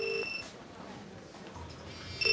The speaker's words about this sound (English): He's heard her phone ringing inside a toilet cubicle.